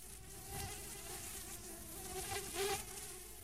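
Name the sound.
housefly buzzing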